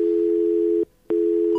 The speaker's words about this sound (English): Outside dial tone.